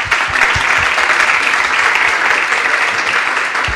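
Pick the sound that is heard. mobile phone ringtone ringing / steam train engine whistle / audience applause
audience applause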